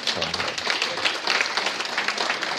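A crowd applauds steadily, many hands clapping in a dense, continuous patter at an even, fairly loud level throughout, with a brief voice heard at the very start.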